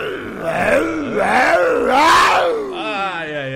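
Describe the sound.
A man's voice loudly imitates a motorcycle exhaust: a rough, buzzing drone lasting a few seconds, its pitch wavering up and down like revving, swelling louder in the middle before settling.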